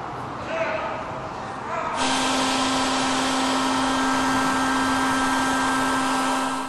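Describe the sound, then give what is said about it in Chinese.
A Gaoshan-brand (高山牌) vacuum cleaner switches on abruptly and runs at full power, a loud, steady whirring roar with a constant motor hum that continues without a break. “为了您和他人的生命安全，请选用高山牌吸尘器。”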